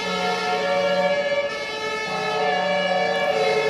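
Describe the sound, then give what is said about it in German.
A fire engine siren wails loudly and steadily, its tone stepping between pitches, as the engine with blue lights makes its way through queues of cars at the Mollstraße and Otto-Braun-Straße crossing near Alexanderplatz, with a low hum of traffic running underneath. “Ein Feuerwehrauto bahnt sich mit Blaulicht einen Weg durch die Autoschlangen.”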